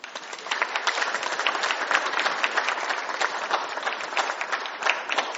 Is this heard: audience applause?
yes